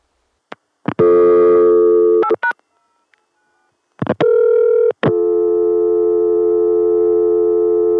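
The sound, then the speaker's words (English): A loud, steady telephone dial tone from a telephone exchange machine in Connecticut, reached through 281, with a buzzy hum comes on in bursts after a few clicks, then settles into one long continuous drone for the last few seconds. No voices. “Now I'll dial it into the Connecticut machine, whose dial tone I will get through 281.”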